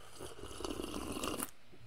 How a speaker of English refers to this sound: Let me take a sip of the coffee because I took allergy medicine and I'm about to pass out.